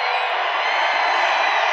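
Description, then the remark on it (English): A large rally crowd in Glendale, Arizona cheers loudly and continuously as RFK Jr. takes the stage, a dense roar of shouts and whoops that holds steady without a break, with no single voice standing out. “As RFK Jr. got on the stage in Glendale, Arizona, listen to the crowd.”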